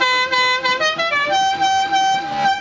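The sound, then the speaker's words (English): A loud musical car horn like the one from the Dukes of Hazzard, sounded in place of a train whistle, plays a short tune of sustained, buzzy notes that step between pitches one after another, with no talking over it. “That's no sound for a train whistle to make.”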